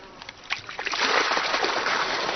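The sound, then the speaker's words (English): Water rushes and splashes steadily as it is let out of a rice paddy field in Longshen, starting with a few scattered splatters before swelling into a continuous, fairly loud gush. “But before he starts work, he needs to let some water out of the system.”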